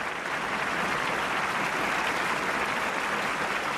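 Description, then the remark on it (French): A theater audience at the Astor Theater on the world premiere night, 15 October 1940, applauds Charlie Chaplin, a dense, steady wash of many hands clapping at once with no pause, loud and sustained throughout, and no voices standing out. “Tous ces applaudissements.”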